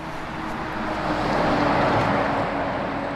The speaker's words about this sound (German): Der Verkehr rollt bei der Kreuzung Aumühli am Eingang von Frauenfeld, wenn man von Matzingen herkommt. An dieser Stelle hat es in den letzten Jahren immer wieder Unfälle gegeben.